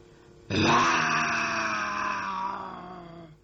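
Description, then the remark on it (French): A tiger's growl rises abruptly into one long, loud, rough roar with a buzzing harmonic tone, holding for about three seconds before tapering off, with no talking around it. “C'est encore un tigre. Un autre.”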